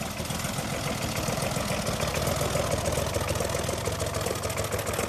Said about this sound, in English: Adolf gives me a lift on his tractor into the middle of one of his fields.